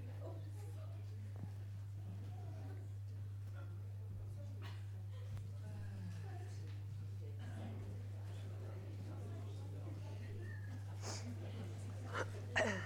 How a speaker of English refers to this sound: I can hear lots of packet rustling. This is going well.